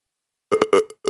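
After a brief silence, a man lets out a loud, close burp, a short croaking belch that breaks into several choppy, gurgling pulses.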